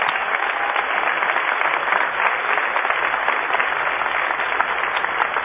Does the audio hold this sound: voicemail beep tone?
no